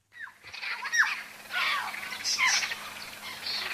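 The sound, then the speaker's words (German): A dense chorus of hundreds of birds chirping and squawking at once at a waterhole in the Kimberley, northwestern Australia, early in the morning, overlapping calls filling the air continuously, steady with no voices. “Früh am Morgen an einem Wasserloch in den Kimberley. Hunderte von Vögeln zwitschern.”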